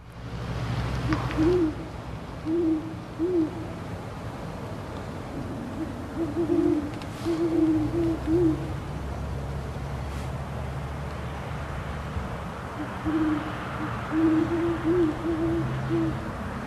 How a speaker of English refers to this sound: We have Charles and Sarah, by the way, from, I think we swiped it from your website. Well, let's take a listen to what these two owls sound like.